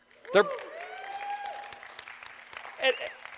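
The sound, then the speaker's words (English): An audience applauds steadily for a few seconds, applauding a couple who were sitting in the class: a dense patter of clapping with a couple of louder vocal exclamations rising above it near the start and again near the end. “Yeah, applaud them.”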